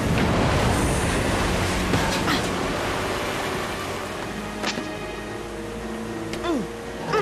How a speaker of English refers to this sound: The entire computer system's gone berserk. My room is filling with water, and I can't stop it. Oh, no!